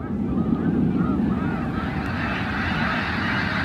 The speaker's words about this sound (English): That big whoosh is the wings of 1,000 snow geese beating together, creating a rush of air like a passing freight train. Here it is one more time.